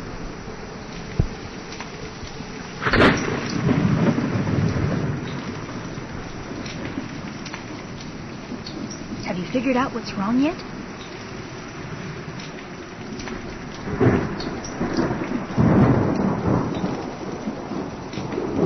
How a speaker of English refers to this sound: Yes, there was wind. And thunder. And of course, frying bacon.